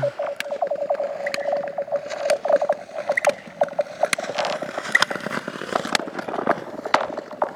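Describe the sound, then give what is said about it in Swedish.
An ice skater glides over lake ice: a steady, unwavering hum runs throughout, its constant pitch showing the ice thickness stays the same, broken by a quick series of crisp scraping clicks from the blades. No one speaks. “Nu kommer den skridskoåkaren.”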